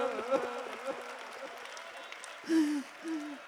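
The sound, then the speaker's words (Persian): A crowd at a Muharram gathering claps for the story of Qasim's fighting in a dense, steady patter that fills the whole clip, while a man's raised voice speaks over it and a couple of louder sustained vocal calls come near the end. “صدای کف زدنتون مثل نقل پاچیدن و سنگ پاچیدنه.”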